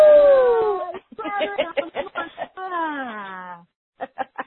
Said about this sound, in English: So let's take a big breath, and I want you to make some sound. And if you're at home, I want you to yell.